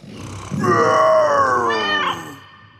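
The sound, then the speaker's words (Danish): A person imitates a lion's roar by voicing into a cola bottle: one loud, buzzing growl lasting about two seconds, its pitch sliding slowly downward before a brief rasping break at the end. “I skal se, hvis jeg putter den her colaflaske op, så kan jeg fuldstændig lyde som en løve, der brøler.”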